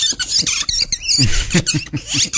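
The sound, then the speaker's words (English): A boy performing on stage imitates a barn swallow's call with rapid, high twittering chirps and squeaky warbles, a busy chattering stream broken by short pauses, with no words spoken. “So what's the hardest bird to imitate? Probably the barn swallow.”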